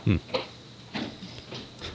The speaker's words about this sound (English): Are those footsteps I hear? Yeah, that's my fiance going back downstairs again.